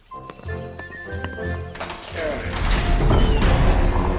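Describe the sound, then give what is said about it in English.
A heavy mechanical ratcheting and clanking as large castle doors grind open, with metallic clicks early on building into a loud, rumbling churn of gears and creaking. “Open the castle doors.”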